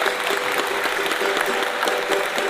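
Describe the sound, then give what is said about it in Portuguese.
A steady burst of audience applause, dense and even, many hands clapping together at a fairly loud level for a couple of seconds with no voices standing out. “E uma salva de palmas.”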